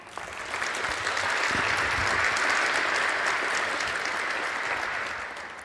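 An audience breaks into sustained applause, a dense wash of clapping that swells in quickly, holds steady for several seconds, then begins to taper off at the end.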